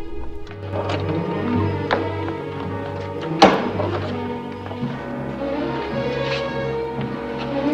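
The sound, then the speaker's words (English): A hotel's double doors swing shut and are bolted with a single heavy thunk, preceded by a few lighter clicks and taps, all set against a steady, sustained musical drone. “Melanie recloses and bolts the doors.”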